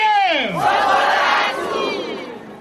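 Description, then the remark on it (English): A large crowd of supporters at Chakwera's election campaign rally, held despite the pandemic, roars and chants in unison, many voices swelling together in loud, sustained shouts with sliding pitch, filling the whole moment. “And despite the pandemic, his campaign has attracted big crowds of supporters.”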